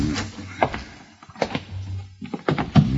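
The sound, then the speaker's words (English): A closet door is handled: a few wooden thunks and knocks as it is pulled and swung open, over a low steady hum, with no one speaking. “Where does this door lead to? Closet.”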